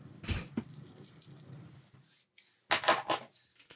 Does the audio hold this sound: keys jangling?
yes